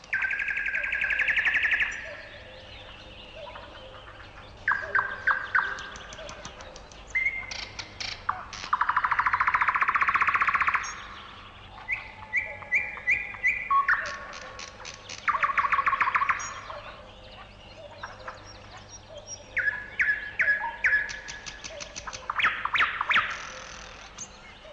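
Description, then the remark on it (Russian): A nightingale sings alone and loud, in varied bursts of rich whistles, rapid trills and sharp clicking notes, each phrase separated by short pauses. “А теперь послушайте соловья.”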